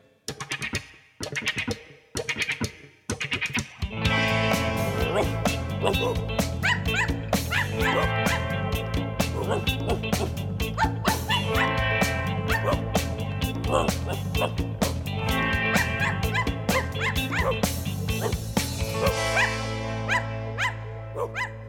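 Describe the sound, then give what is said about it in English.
Voices imitate a dog barking in a children's song, repeating playful woofs in quick pairs over a bouncy, steady musical accompaniment, with singing in between. The imitations are clear. “Act like a dog and go woof woof.”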